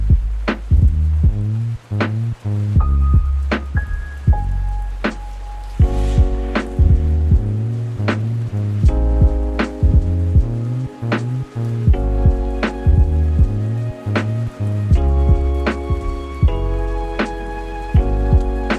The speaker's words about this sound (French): Dans les codes du Lofi. Ouais. C'est texturé, la petite pluie derrière.